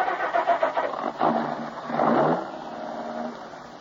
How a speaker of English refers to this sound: I glanced at her closely for a moment, then started the car.